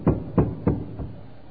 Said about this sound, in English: But Peter continued knocking when they opened the door and saw him. They were astonished.